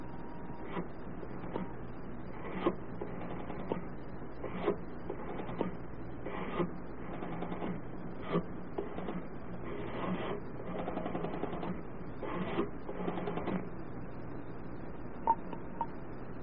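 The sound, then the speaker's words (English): A pay phone at a hotel being dialed: a steady series of mechanical clicks and ratchets, moderately loud, with brief pauses between bursts and no one speaking. “I'd like to make a phone call first.”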